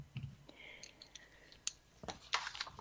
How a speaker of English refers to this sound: Yeah, I'm dropping pens.